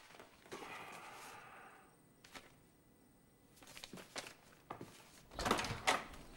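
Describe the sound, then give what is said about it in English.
A front door is opened and shut as a man walks out of it carrying his mail, with a latch click, a creak of movement and a firm closing thud near the end, in otherwise quiet surroundings. “He walks out of the front door and across his lawn, his mail in his hand.”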